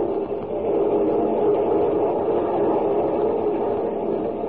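A train rolls steadily along the rails, a continuous low, dense rumble that holds at an even, fairly loud level throughout, with no voices.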